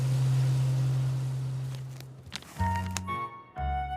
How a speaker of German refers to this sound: Hier ist das Waschpulver. Das kommt in diese Schublade. Ist gut. So. Welchen Knopf muss ich drücken? Die Temperatur habe ich schon eingestellt, Mittel ist drin und du kannst die Waschmaschine da anstellen. Aha. Los geht's.